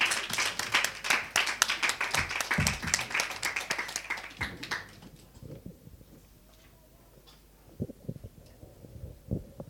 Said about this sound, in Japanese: 拍手で迎えましょう。